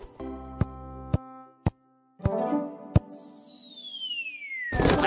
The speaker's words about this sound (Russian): Бабах! Осторожно! Мяч попал прямо в коробку с инструментами, и они рассыпались.